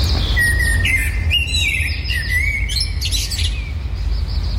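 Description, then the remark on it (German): A whistled imitation of blackbird song, a run of fluting, warbling phrases and quick chirps at moderate loudness over a steady low rumble, with no talking. “Ja, ich kann auch Amsel Sächsisch.”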